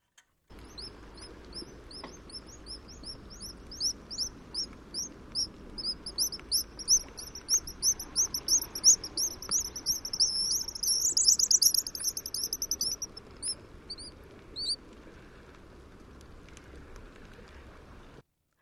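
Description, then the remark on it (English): A guillemot, a small all-black sea duck with white wing bars and red feet, gives a long, rapid series of high, squeaky calls, building louder toward the middle before breaking off, over a faint background hiss with no one speaking. “Wow, it has kind of a squeaky sound. I not something that you would expect from that kind of a bird.”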